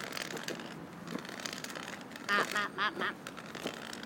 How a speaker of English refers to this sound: And earlier you could hear some ducks telling us off because we were close to their babies, I think.